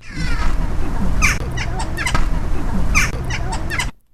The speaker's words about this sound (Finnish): Ja ohjelman lopussa esittäytyy naakka. Riitta Vauraksen lintusarjassa siis tänään vuorossa naakka.